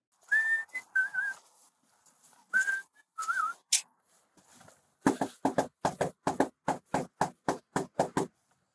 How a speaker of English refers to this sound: The body cam footage is so very Midwestern to me because the officer is whistling a jaunty tune and gives a little rhythmic knock at the door like he's just out there enjoying his job and his life.